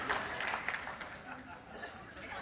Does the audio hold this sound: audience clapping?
yes